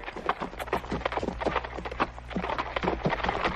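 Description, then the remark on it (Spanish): A horse walks in a steady circle turning a three-roller sugarcane mill in Bichiquí, Toribío municipality, its hooves clopping in a continuous, fairly tight rhythm over a low, constant rumble. “Ese es un trapiche de tres palos. Uno mete la caña y devuelve por ahí mismo.”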